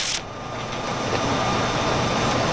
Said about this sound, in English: So, these are the sound effects. Mavis is on the car. She's in the car. She's driving along. Probably in that long drive.